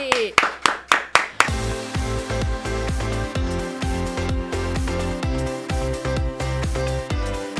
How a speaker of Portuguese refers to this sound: Então a gente tá o quê? Liderando! Palmas pra mulherada aí!